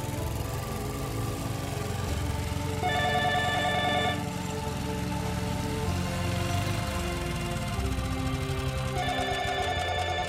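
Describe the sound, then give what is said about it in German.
A telephone rings in two distinct bursts, the second arriving after a long pause, each a bright, trilling electronic tone over a steady, rain-like background hiss; the call is from a man at the municipal utility company. No one speaks. “Telefon, Omi.”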